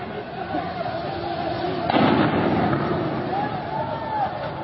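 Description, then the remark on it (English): Regime forces fire automatic weapons into a crowd of young people in the streets of Kermanshah, Iran: a burst of rapid automatic gunfire cracks out midway through, loud and sharp over the steady roar and shouting of the crowd, which carries on after the shots fade. “Just shooting into this crowd of young people.”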